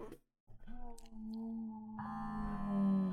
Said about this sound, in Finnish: Se on niinku valaiden kutsu.